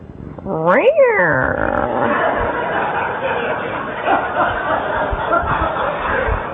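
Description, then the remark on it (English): A person imitates a cat yowling in pain: a sharp, rising-then-falling wail, followed by a long, strained, harmonic howl that stays loud and wavering until the end. “I personally experienced, I became a cat.”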